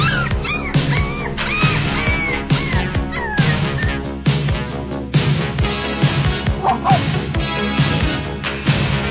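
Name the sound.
dog barking and yipping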